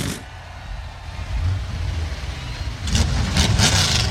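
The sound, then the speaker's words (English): A field of 37 corn ethanol powered NASCAR Cup Series stock car engines fires up together at a speedway in Iowa, a low rumbling roar that swells and then surges into louder revving bursts, with crowd noise washing faintly underneath. “Drivers, start your corn ethanol powered engines.”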